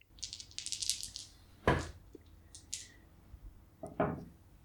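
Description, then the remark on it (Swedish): Dice rattle in a hand with a quick, bright clatter, then tumble out in a couple of sharp clicks and knocks before settling, rolled for a cognition check and coming up nine. No one speaks. “Får du slå ett slag för kognition för att se om du hör vad de säger?”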